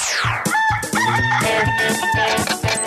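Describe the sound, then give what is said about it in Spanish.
A loud, drawn-out rooster crow for the Radioactiva radio show El Gallo rings out, layered over a punchy rhythmic music bed with a steady low beat, lasting nearly three seconds. “Para los que quieren más, los adictos, dependientes, tóxicos del gallo de Radioactiva.”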